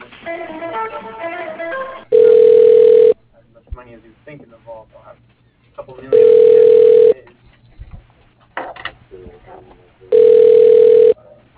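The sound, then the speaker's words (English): Three loud, steady telephone ring tones, each about a second long, repeat at even intervals over a phone line while a call is being transferred to an office extension, with quieter muffled voices and background sound in the gaps between rings. “Let me transfer you over to him.”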